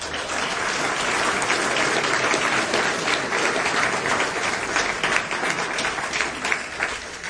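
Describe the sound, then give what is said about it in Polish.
A crowd applauds the guests at a congress steadily for several seconds, a dense, even wash of many hands clapping at a consistent loudness with no voices standing out. “Oklaski dla naszych gości.”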